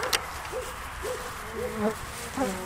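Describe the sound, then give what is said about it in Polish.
A bee buzzes, its drone swooping up and down in pitch as it circles, steady throughout over a low background hum. “uważaj pszczoła.”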